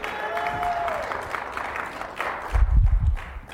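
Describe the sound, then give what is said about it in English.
An audience on a Christmas Sunday morning gives Jesus a clap offering, breaking into steady, dense applause, many hands clapping together in a continuous wash, with a brief voice tone early on and a heavier low rumble of stomping or cheering near the end. “Let's give Jesus a big clap offering.”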